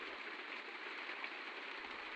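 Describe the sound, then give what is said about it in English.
Steady, even hiss of recorded rain sounds playing softly and continuously in the background, a faint wash of noise with no voices or distinct drops standing out. “Nice plump pillows, low lighting, some rain sounds on in the background.”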